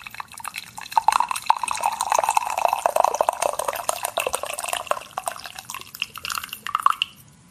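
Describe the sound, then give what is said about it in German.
Coffee being poured into a cup, a steady stream of gurgling, splashing liquid lasting several seconds before trailing off, with no voices. “Ich weiß nicht, ob es einen schöneren Sound gibt als das Einschenken von Kaffee.”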